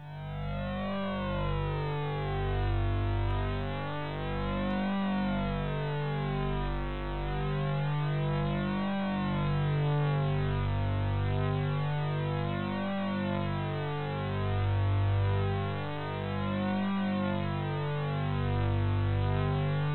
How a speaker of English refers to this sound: Now this one is called phased alarm.